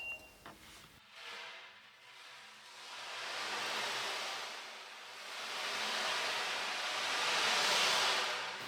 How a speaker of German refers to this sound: Irgendwo im weiten Ozean schlagen die Wellen gegen eine kleine Insel.